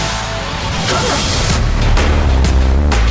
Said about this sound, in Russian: Ладно, Юрий, я оценил ваш роскошный мерин с мягким верхом. Да, очень классная штука. Реально очень красиво.